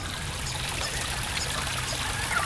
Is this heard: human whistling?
no